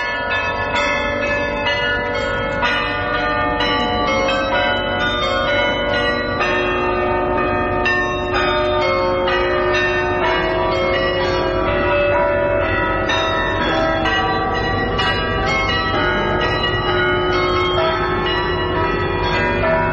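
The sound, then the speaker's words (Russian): Church bells ring out a steady melody as a tribute to a great musician, their overlapping tones blending into a dense, resonant wash that stays loud and continuous throughout, with no voices. “Дань уважения, исполненную, повторяю, на церковных колоколах.”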